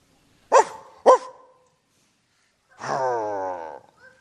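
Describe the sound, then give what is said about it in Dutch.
A police dog gives two sharp, loud barks about half a second apart, then after a short pause lets out a longer whining, drawn-out yelp. No one speaks. “De hond van de politie staat stil.”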